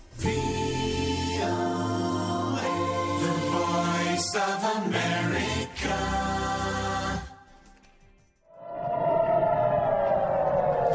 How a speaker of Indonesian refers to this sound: Sementara itu, sirine meraung-raung di kota Ashkelon di Israel Selatan pada Selasa malam ketika militer mencegat rentetan serangan roket terbaru yang ditembakkan oleh militan Hamas dari jalur Gaza.